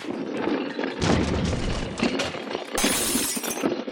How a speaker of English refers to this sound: several goons of Tweed's broke into Hawkins' studio and smashed his sculptures with sledgehammers